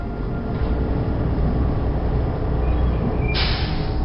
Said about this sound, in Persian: صدایی را از دور میشنوم، بیشک صدای اتوبوس است، اما مه صبحگاهی آنقدر غلیظ است که من به هیچ عنوان چیزی را نمیبینم.